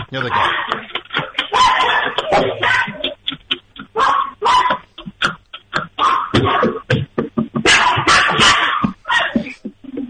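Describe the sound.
Several dogs bark loudly and repeatedly through a tinny phone line, the barks coming in rapid overlapping bursts, while a person speaks briefly amid the noise.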